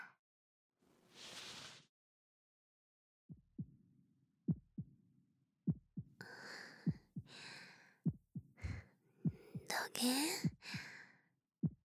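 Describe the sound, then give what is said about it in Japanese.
A quiet, muffled heartbeat thumps in steady lub-dub pairs, heard with an ear pressed against a person's chest, with a soft breath early on and faint whispering over the later beats. “ドクン、ドクンって静かな心臓の音が鳴ったる。”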